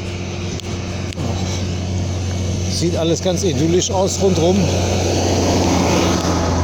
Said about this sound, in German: Aber ist eher laut hier. Entweder kommen Trecker oder LKW oder Bundeswehrlaster. Hier ist ja Munster, Truppenübungsplatz in der Nähe und auch Kasernen.